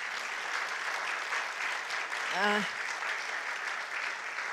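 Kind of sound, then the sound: crowd, audience clapping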